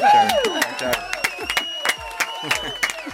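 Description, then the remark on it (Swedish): A small group claps in a scattered, uneven burst for about three seconds, with a voice sounding over the start as the claps carry on. “En applåd ska ni få.”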